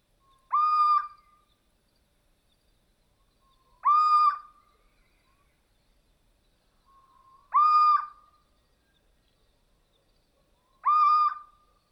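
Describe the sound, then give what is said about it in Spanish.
A stout, solitary little owl, perched motionless on a tree branch, gives four plaintive, mewing calls, each a drawn-out whine spaced evenly about three seconds apart, clear against a quiet background with no talking. “Lleva ahí inmóvil desde hace un buen rato, mirándolo todo fijamente mientras emite su particular voz, que suena como un maullido lastimero.”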